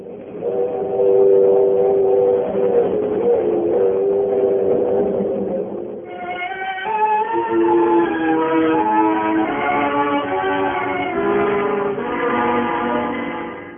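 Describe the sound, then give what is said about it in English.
Train wheels rumble and click steadily over the rails, opening Act One of Whistle Stop, loud and continuous, with sustained whistle-like tones layered on top that shift pitch partway through. No one speaks. “To the sound of clicking rails and rumbling wheels, our curtain rises on Act One of Whistle Stop, starring Alan Ladd as Kenny Deitch and Evelyn Keyes as Mary, with Edwin Max as Gitlow.”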